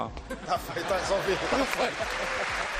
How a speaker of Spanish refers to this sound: Bueno, se llevaba la ovación Cristiano.